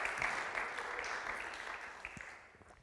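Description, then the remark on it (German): A steady burst of audience applause, many hands clapping together in a dense, continuous patter that fades slightly toward the end, with no voices over it. “Herzlichen Applaus”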